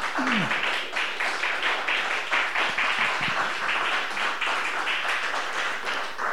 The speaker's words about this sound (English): My friends, one more round of applause